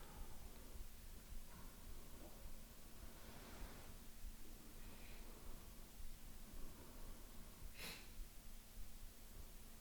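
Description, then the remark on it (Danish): Soft, airy breaths drawn in through the nose by a seated person breathing deep down into the belly, a couple of gentle hissing inhales over a steady background hiss, quiet, with no talking. “Trækker vejret igennem næsen.”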